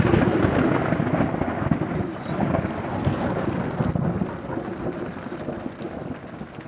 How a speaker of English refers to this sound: Where it was sunny just 30 minutes before, rain now battered the thin tent fabric. The wind pulled at the rainfly, and I could have sworn each clap of thunder was right above our campsite.